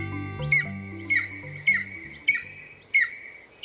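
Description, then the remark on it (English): A golden eagle gives a series of about five thin, high-pitched yelping chirps at a steady rhythm, each one sharp and rising. A low musical hum underneath fades out early. “The golden eagle is a bird of epic proportions, not only for their impressive size, but also for the many legends they've inspired across human history.”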